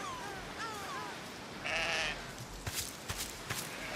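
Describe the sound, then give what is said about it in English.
Sheep in the video game Bleat bleat as the player walks on them, a few wavering calls in quick succession, then a louder, longer bleat, followed by scattered sharp knocks and shuffling. “Kind of just enjoying walking on the sheep.”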